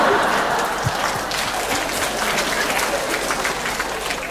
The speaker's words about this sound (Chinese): 这掌声弱了一点。